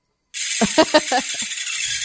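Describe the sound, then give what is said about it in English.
Many water-filled balls skitter and bounce on their own across a hot, fairly big frying pan, a steady bright sizzling hiss broken by a quick flurry of rattling clicks and ticks that thins out toward the end. “You know, it just looks weird that the balls keep bouncing on their own.”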